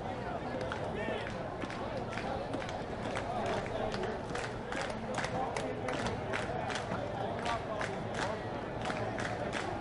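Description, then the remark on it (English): A Tuesday night crowd at a baseball game claps together in a steady, even rhythm, sharp repeated claps rising over a constant roar of murmuring voices and background noise. “Tuesday night crowd clapping in rhythm here as Jake Sweeney has the count 2-2 on Jamari Baylor.”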